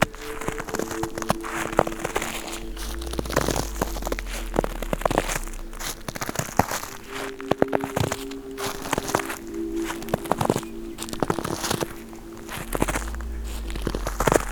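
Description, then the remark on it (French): Footsteps crunch steadily through a carpet of dry, dead leaves, with a regular walking rhythm of crackling, rustling steps and no one speaking. “Sur un tapis de feuilles mortes.”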